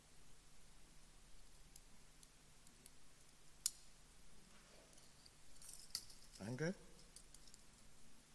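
A few sharp metallic clicks of a key unlocking handcuffs sound amid quiet rustling and faint background noise, with a brief cluster of clicks near the end.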